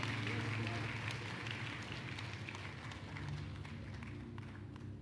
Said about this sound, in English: Oh, are you trying to clap, or you are clapping for the Lord?